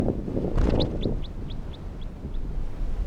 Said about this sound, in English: Recording releasing a bird that was in the net but I'm not going to keep. Orange male number one.